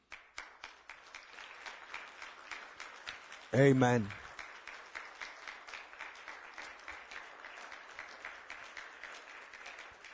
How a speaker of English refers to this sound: Let's appreciate God this day with a heart clap.